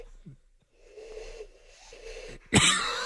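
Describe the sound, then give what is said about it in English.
A person in a radio studio blows through cupped hands to imitate an owl, making two breathy, hollow hoots in a row, followed by a sudden loud burst of breath or laughter. “There are going to be owls flying in the studio if you keep that up.”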